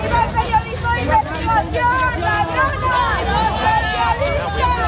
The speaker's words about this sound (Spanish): Viva el periodismo de investigación, corrupta. Estos son los gritos que le han proferido algunos de los ciudadanos que se habían congregado en los alrededores de los juzgados de Plaza Castilla.